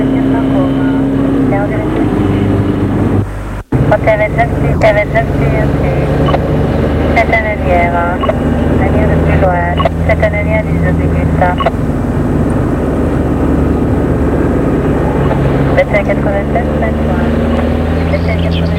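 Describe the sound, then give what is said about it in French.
A steady, loud engine drone runs throughout, like a car motoring along, driven by a chauffeur, with voices talking over the constant low rumble. “Le chauffeur a arrêté la voiture.”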